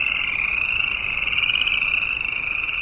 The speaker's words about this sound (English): Winter's just breaking up. We pass pools of frogs telling everybody hibernation is over.